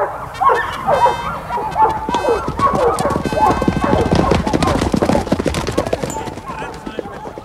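A pack of hunting dogs, just released for King Charles's hunt, barks and yelps excitedly while horses' hooves clatter in a steady clip-clop rhythm, the commotion loud and continuing throughout, on a fair, cloudless day.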